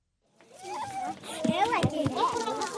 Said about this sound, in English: It doesn't sound like it, but these kids are hard at work. This is a cool invention. It's a play pump, a merry-go-round like a playground toy. As kids spin it around, they draw gallons of pure water from an underground well